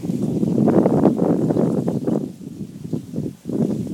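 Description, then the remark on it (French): Steady gusting wind mixed with a continuous wash of running water, like rain or a small cascade, swelling and dipping in loudness throughout, fairly full, with no voices. “Ouais, moi, j'ai l'impression que j'entends de l'eau qui coule comme... Ouais, c'est ouais. Ça. Un peu une cascade.”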